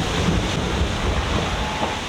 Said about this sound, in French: Ça claque, ça dégouline de flotte, ça tape dans la vague.